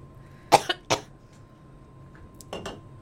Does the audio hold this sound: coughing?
yes